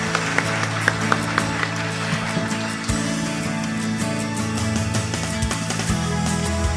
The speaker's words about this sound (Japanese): 皆様今一度大きな拍手をお願いいたします。